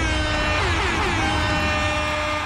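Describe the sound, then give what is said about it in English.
A loud, sustained air horn blast, blown to celebrate Jobs Day, fills the whole moment, a harsh blaring tone held steady from start to finish with no voices over it. “I'm handing you the air horn now.”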